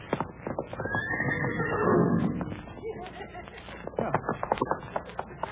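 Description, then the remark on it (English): A horse being tamed by a cowboy gallops with rapid, pounding hoofbeats, and a loud, shrill whinny rises over the hooves early on. The hooves keep thudding unevenly, with no talking. “Now the horse is tired out, I'll put the saddle on him.”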